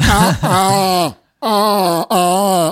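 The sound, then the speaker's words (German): A person vocally imitates the call of a roe deer heard in a wildlife park, with three loud, hoarse, drawn-out bleating cries, the first longest, each strained and nasal, separated by short pauses. “Ey Junge, da habe ich das erste Mal gehört, wie Rehe Geräusche machen.”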